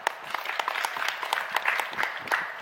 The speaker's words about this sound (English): Have a clap.